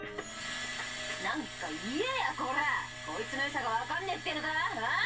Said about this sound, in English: The sound of the motor echoes throughout the room.